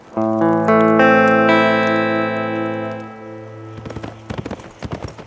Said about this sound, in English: Sometime during the night, Andy awakened to the sound of a running horse.